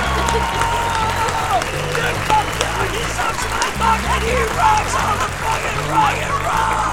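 A live crowd at the Tabarnak Show in Montpellier, France cheers and applauds steadily for a guest, dense clapping mixed with shouts and whoops, loud throughout over a rhythmic low bass pulse of music.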